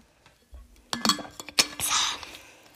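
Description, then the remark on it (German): A glass clinks a few times in quick succession, followed by a soft, breathy swallowing or sipping sound as someone drinks water, with no one talking. “Ich trinke gerade Wasser.”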